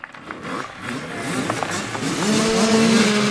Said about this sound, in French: Le motoball, c'est l'odeur de l'essence, le bruit de la moto.